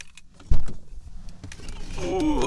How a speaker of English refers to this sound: Step one, get out of the car.